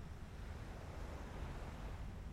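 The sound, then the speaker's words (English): Gentle waves lap and wash in a tiny cove completely protected from the wind, alongside a burbling stream: a soft, steady murmur, low-pitched and continuous without distinct breaks, heard quietly with no voices. “The only sounds are the burbling stream and the gentle lapping waves.”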